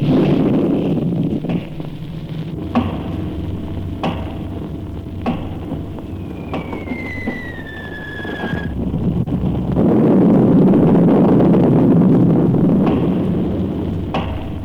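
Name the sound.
artillery shelling explosions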